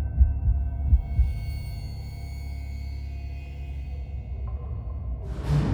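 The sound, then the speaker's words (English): A deep, pounding heartbeat thuds heavy at first, then settles into a dull throbbing beneath a steady low hum, with a brief rising whoosh at the very end. “Elsie gasped and stumbled away from the window, heart pounding.”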